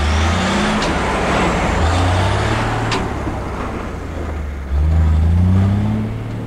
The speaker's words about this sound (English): Standing beside the Cherokee, Jeff smiles and watches the semi leave.